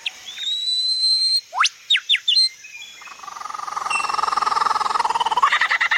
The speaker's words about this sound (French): ce séducteur a aussi d'extraordinaires capacités d'imitation des vocalisations d'oiseaux d'autres espèces